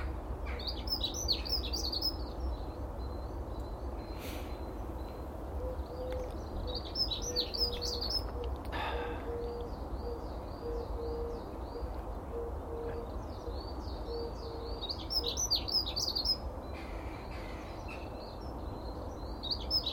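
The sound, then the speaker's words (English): A female blackbird perched atop the west fence chirps in short bursts of bright, high warbling notes that come back several times over a steady low rumble, with no one talking. “Mrs. Blackbird is atop the west fence to my right.”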